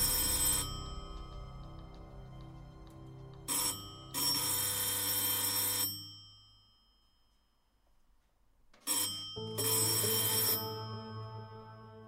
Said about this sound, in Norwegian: Da ringte det på døren.